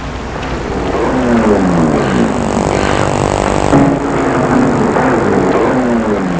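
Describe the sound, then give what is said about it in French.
A car engine hums as the car arrives and stops, its pitch rising and falling as it revs and shifts, steady and fairly loud throughout with no voices. “arrive en voiture. Sort de voiture.”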